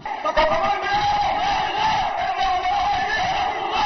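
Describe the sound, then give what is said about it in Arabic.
A large funeral procession crowd chants labbayk slogans as it sets off from the Al-Hawra Zainab hall in the Ghobeiry district, a dense, loud wall of many voices shouting together without pause for the whole few seconds, no single voice standing out. “موكب التشييع الحاشد انطلق من قاعة الحوراء في محلة الغبيري وسط هتافات التلبية وانتهى عند روضة الشهيدين حيث وريا في ثراها.”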